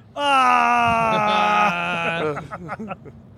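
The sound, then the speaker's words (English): A person lets out a loud, sustained scream, holding one steady pitch for over a second before it breaks into shorter, choppy cries that trail off. “What are you screaming about?”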